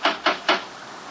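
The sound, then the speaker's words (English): Three heavy knocks from a huge brass door knocker on the front door of a house in the New England countryside during a thunderstorm, evenly spaced, each a sharp metallic rap with a short ring, followed by quiet. “There was a huge brass knocker.”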